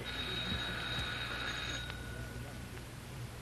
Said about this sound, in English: Oh, I guess we better ring the bell.